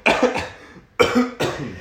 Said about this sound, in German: Und dein Lachen klingt wie Husten. Ich huste auch. Ich sterbe hier.